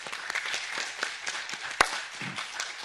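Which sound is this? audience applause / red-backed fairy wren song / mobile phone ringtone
audience applause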